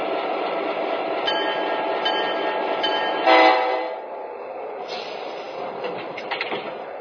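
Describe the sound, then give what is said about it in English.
Passenger train number 55 from Chicago rolls into track 1 at the station in New Orleans with a steady rumble of wheels and cars, a brief horn-like blast midway, then the noise eases to a lower, settling clatter. “arriving from Chicago on track 1, train number 55, the Panama Limited.”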